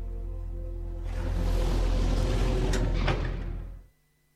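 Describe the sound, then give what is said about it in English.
Metal elevator doors slide shut over a low mechanical hum, a broad rumbling glide lasting about three seconds with a couple of faint clicks before stopping. “He looks shell-shocked as the metal doors close.”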